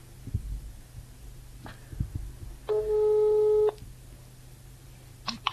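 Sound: phone call ringback tone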